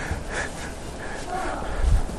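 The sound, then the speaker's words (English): A single short, muffled sneeze bursts out near the end after a quiet, breathy moment, against low room noise. “Bless you, darling.”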